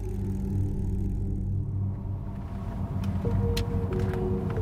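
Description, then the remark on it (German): A steady low rumble heard from the back seat of a moving car driving along the Seine in Paris, deep engine and road drone filling the space, with a few faint clicks and a brief tonal hum near the end. “Mit dem Mind Recorder im Gepäck sitze ich gemütlich auf der Rückbank des Autos und schaue hinaus.”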